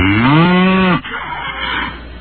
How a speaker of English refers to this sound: The machine. Okay, how about cow? Ah, good old fashioned cow. Cow. A good test. Here we go. Cow.